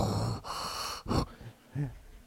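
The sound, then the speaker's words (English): A person imitates Darth Vader's slow, heavy mechanical breathing, two long hissing breaths with a raspy, filtered quality, followed by a short voiced tail, fairly loud. “The music gets super dramatic. You start hearing his deep breathing. It's like...”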